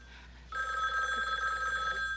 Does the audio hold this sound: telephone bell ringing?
yes